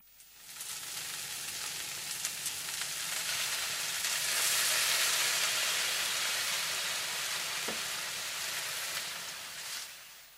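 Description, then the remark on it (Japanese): Steady sizzling of beef and onions stir-frying in hot oil in a pan, a dense crackling hiss that swells slightly and holds for several seconds, with no voices. “これを鍋で炒めます。まず油を入れて、それから牛肉と玉ねぎを入れます。”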